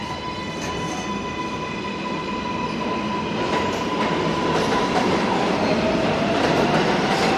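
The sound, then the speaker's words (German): A New York subway train rumbles along at steady speed, a dense, loud roar with high metallic whines and faint rhythmic clacks of the wheels, heard from inside the car with no voices. “In der U-Bahn stehen Menschen aus allen Teilen der Welt dicht gedrängt.”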